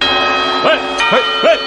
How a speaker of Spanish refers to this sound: Los cuartos, preparad las uvas. Después de los cuartos, atención, que llegamos a las campanadas.